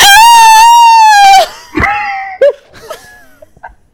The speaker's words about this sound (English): Your scream was so high pitched the mic didn't catch it.